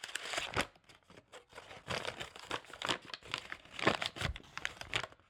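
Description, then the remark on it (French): Crisp paper crinkles and crackles as a crumpled paper ball, found in a school wastebasket in Saint-Gilles, is pulled open, a steady run of irregular rustling snaps lasting several seconds with no voices. “Dans la poubelle d'une école à Saint-Gilles, j'ai trouvé une boule de papier froissée. En la dépliant, je me suis rendu compte qu'il s'agissait sans doute d'un brouillon d'écrivain.”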